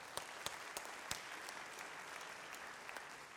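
A church audience applauds steadily at an announcement about taking over a ministry, a dense patter of clapping with a few sharper individual claps standing out, moderately loud and sustained throughout.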